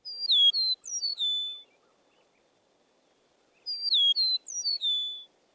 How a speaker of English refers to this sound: The song of the eastern meadowlark is often written as spring of the year, spring of the year.